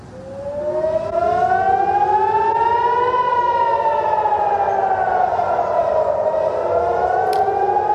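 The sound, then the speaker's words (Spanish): Air raid sirens wail loudly across the city of Jerusalem, warning of an imminent attack from Iran, their overlapping tones rising and falling in long sweeping arcs that blend into a continuous, echoing drone with no voices. “Las sirenas han vuelto a sonar hoy en la ciudad de Jerusalén.”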